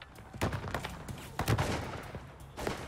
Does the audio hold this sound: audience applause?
no